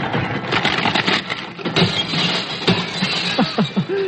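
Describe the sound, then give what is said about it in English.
A machine meant to turn old Christmas trees into cigarettes grinds up a Christmas tree: steady, harsh, noisy churning with dense crackling and splintering snaps throughout, ending in a few sharper, higher-pitched clinks and rattles from ornaments left on the tree. “I take a Christmas tree and I grind it up.”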